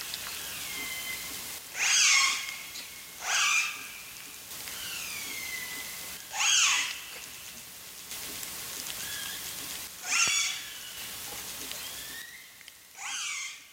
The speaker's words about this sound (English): From their calls, they knew the orcas were related to Springer, but were not her immediate family. The orcas called back and forth for hours.